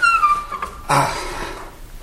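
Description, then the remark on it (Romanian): The pulley of a country well, with a bucket on a rope drawing water, squeals in a long, high, whining creak that slowly falls in pitch, followed by a short, louder clunk as the bucket is hauled up, with no talking. “Ne trezim și fântâna cântă.”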